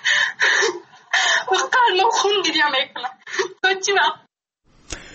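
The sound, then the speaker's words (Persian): An Afghan schoolgirl, despairing over the Taliban's continued ban on education for girls above sixth grade, cries and wails, her voice breaking into loud, strained bursts of sobbing speech with short gaps, trailing off into a brief catch of breath at the end. “گریه و ناله دانش آموز را شنیدید که ادامه ممنوعیت بر آموزش دختران بالاتر از صنف ششم در افغانستان زیر سلطه طالبان مایوسش کرده.”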